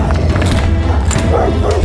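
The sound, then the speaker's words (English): Dogs barking in a dense, continuous clamor, with overlapping barks and dull thumps filling the scene; no one speaks. “hopefully the dogs will eventually go away and look for food somewhere else”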